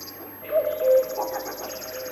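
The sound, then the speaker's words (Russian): A river warbler's dry, insect-like trill pulses steadily and rapidly throughout, with a few softer, lower bird calls mixed in underneath. “Это песня камышовки. Птица очень осторожна, и увидеть ее нелегко. Зовут ее речным сверчком.”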